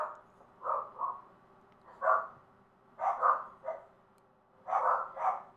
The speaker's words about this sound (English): Wait a moment for the dogs to calm down. I think the postman just went by.